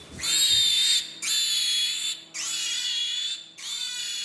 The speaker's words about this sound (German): I mean, we know that screams and these squeals, these high frequency calls are associated with negative situations in pigs.